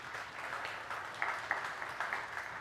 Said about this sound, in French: Et vous, ouais, on peut l'applaudir.